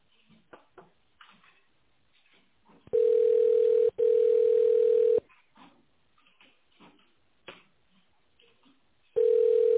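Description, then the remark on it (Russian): A telephone ringback tone sounds as steady, mid-pitched buzzing bursts of about two seconds each, separated by pauses, with faint indistinct murmuring in the gaps, while a call to the company Tekhstroykontrakt waits for an operator to answer. “В тональном режиме наберите внутренний номер абонента или дождитесь ответа оператора.”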